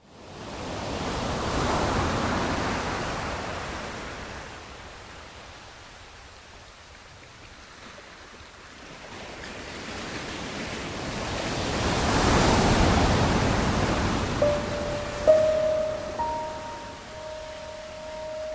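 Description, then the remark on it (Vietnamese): Rough, foaming sea waves in a storm surge and crash in broad, roaring swells, lifting and dropping a sailing ship, building to two heavy peaks, with a thin sustained whine appearing near the end. No voices. “Con thuyền dâng lên hạ xuống theo những đợt sóng ngầu bọt.”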